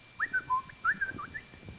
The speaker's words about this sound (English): No, it's the most beautiful sound in the mornings you've ever heard. Those birds out there just thanking the Lord.